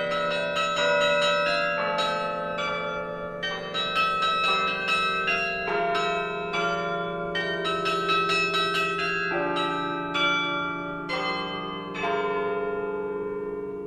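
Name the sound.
church bells ringing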